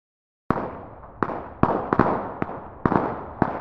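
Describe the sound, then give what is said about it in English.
Firecrackers set off by neighborhood kids outside a home pop in an irregular string of about seven sharp bangs, each leaving a short echoing tail, fairly loud with no voices. “It's August 23rd, 1975, and some neighborhood hooligans are playing with firecrackers outside the home”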